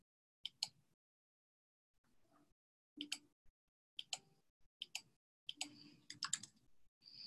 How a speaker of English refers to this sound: I'm going to click this little filter. And I'm going to exclude from them.